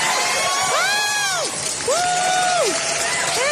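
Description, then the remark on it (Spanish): A live crowd roars steadily, with dense clapping beneath and several long, rising-and-falling whoops from individual voices carrying over the din. “Otra vez, aplaudan. De nuevo.”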